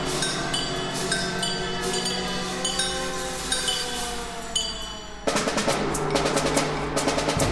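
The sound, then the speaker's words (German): A real siren wails, gliding slowly up and down in pitch, in a six-minute piece for 13 percussionists playing 43 instruments, over a dense, percussion-heavy orchestral texture with metallic clinks, before a burst of loud, rapid, crackling gunshot-like percussion takes over near the end. “Da ist die Sirene.”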